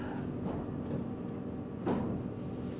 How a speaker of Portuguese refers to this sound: daria para fechar essa porta? Acho que daí o som fica melhor.